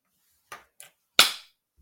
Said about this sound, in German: Muss ich da jetzt irgendwas machen? Einmal in die Hände klatschen.